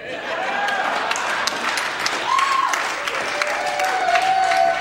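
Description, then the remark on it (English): Audience applause after a song performance fills the whole stretch, a steady dense wash of many hands clapping at fairly high volume, with a few faint whoops and cheers rising above it. “Some rightfully earned applause for”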